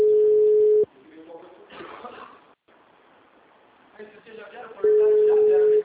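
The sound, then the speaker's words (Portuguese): A telephone busy-line tone: a loud, steady mid-pitched beep sounds for about a second, gives way to muffled phone-line voices, then returns just as loud at the end. “Assim que o telefone estiver disponível, entregue seu recado.”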